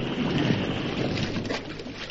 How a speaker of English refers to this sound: You'll overturn the canoe. You'll drown us. The water. Look at it. It's boiling, frothing.